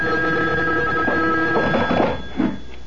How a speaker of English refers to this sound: A phone. At this hour? I'll get it.